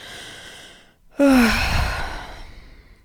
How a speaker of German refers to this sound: Die Schilder kommen näher, die Kilometer werden weniger nach Hamburg und dein Atem wird immer schneller. Zwischendurch musst du richtig schwer atmen.